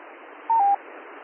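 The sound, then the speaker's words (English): Steady, thin radio hiss is briefly broken by one loud electronic tone burst, about a quarter-second long: interference from other stations beaconing on the same frequency. No voices are heard. “Getting a little interference. My crossband or my filter's not working, and the other guys who are beaconing on frequency keep throwing it off, so I don't have a current for you.”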